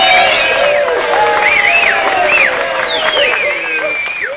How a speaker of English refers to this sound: I mean, well, I had to close the door when I said your name because, you know, of course, the crowd wanted to clap. Let me open the door real quick.